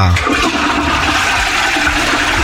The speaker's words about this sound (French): Ouais mais écoutez, vraiment, dans les toilettes. Et là, ce que t'entends, c'est une chasse d'eau.